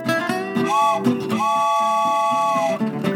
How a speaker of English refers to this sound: Now, Medlars, sound the horn and hop on the train and let folks know what they're listening to.